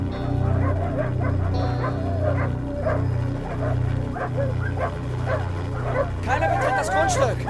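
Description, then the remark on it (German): Several dogs bark and whimper in a steady stream over a pulsing low drone, their yelps and whines growing higher and more excited toward the end. “Die Hunde! Vorsicht, die Hunde!”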